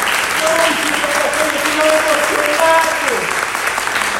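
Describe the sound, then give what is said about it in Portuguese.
An audience applauds steadily for several seconds, dense clapping at a fairly loud level, with a voice or sustained tones faintly audible underneath. “Você consegue aplaudir a isso?”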